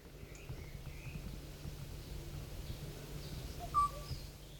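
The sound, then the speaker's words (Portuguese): A single short, clear bird call rings out near the end over a steady low background hum, with a few faint chirps scattered earlier. “Até ao próximo episódio, vamos desaparecer devagarinho, deixando-vos com mais um chamamento.”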